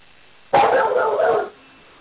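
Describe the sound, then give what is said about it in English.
A dog lets out a sudden, loud, excited burst of barking lasting about a second, slightly muffled, with quiet before and after. “My dog is emphatically excited about this.”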